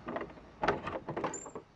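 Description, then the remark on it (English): A doorknob on a house's front door rattles and turns, with a few metallic clicks and a louder clack, then a brief high squeak as the unlocked door begins to open. “He gave the door another knock, and then tried the doorknob.”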